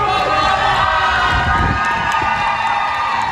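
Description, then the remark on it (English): A crowd of family, friends, students and the varsity high school baseball team, the Bay City Western Warriors, cheers and shouts as a teacher walks out of his final round of chemotherapy and rings the cancer bell: a loud, dense wash of many voices with whoops rising above it, holding steady throughout. “The cheers.”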